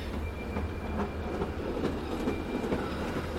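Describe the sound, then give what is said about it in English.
A train pulls away along the rails, its low continuous drone marked by faint rhythmic clacks and a thin metallic whine, with no voices present. “But then he slowed and stopped and watched the train go off.”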